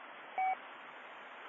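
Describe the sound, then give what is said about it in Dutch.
A single short electronic beep from an amateur radio set, lasting a fraction of a second, sounds over steady band-limited static hiss, followed by a sharp click at the very end. “Ja, even de 70 teruggedraaid. Anders piept het zo.”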